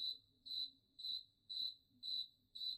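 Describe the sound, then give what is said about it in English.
A cricket chirps in a steady, regular rhythm, about two bright pulses per second, each a shrill high trill standing alone over faint low background noise. “Insert cricket soundbite here.”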